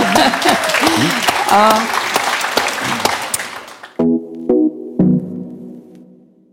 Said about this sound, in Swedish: Det blir lite sus här i publiken.